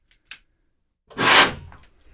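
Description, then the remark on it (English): Two faint clicks, then a loud, breathy whoosh as a flame ignites vapor from trace liquid left inside a 5-gallon drum, swelling up suddenly and fading over about half a second, with no voices. “So when you introduced flame to that 5-gallon container, there was just a huge whoosh sound, and I think we lost a lot of the air in the room here.”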